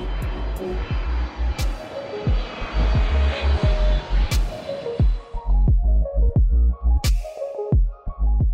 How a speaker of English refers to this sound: For example, for the aircraft right there, that's a KLM 777, which happens to be also my favorite aircraft.